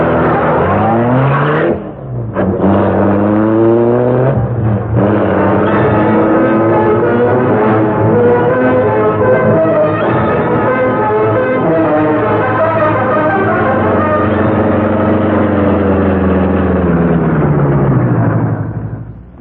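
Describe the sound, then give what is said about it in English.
The Black Beauty, the Green Hornet's sleek, super-powered car, bursts to life after a brief sputter as a button is pressed, then roars loudly and steadily, its pitch climbing and shifting as it revs and speeds off into the darkness, cutting off abruptly at the end. “Rick Reed pressed a button. The great car roared into life.”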